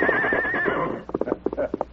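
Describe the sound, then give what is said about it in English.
A tired horse named Silver gives a loud, wavering whinny for about a second at dusk, then a quick run of uneven hoof clip-clops follows as the horses are turned into a gully. “As they turned their tired horses into a gully, the masked man said, "We'll soon be in camp.”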